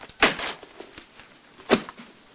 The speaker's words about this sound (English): He leaves, slamming the top half of the door behind him.